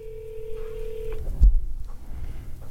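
A steady electronic telephone tone hums for about a second before cutting off with a sharp click, followed by quiet low line noise, like a phone call being dialed and connecting.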